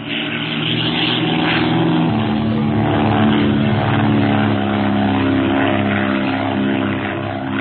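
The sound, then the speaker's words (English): A propeller airplane roars close overhead, its engine drone loud and steady throughout, with a deep throbbing hum and no voices. “Perhaps lunatics are flying the plane.”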